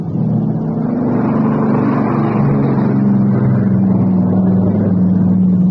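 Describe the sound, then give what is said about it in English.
A Catalina coastal patrol plane's engine drones steadily and loudly throughout, a low rumbling hum with a faint shifting pitch as it circles overhead; no voices. “It's a coastal patrol, Catalina.”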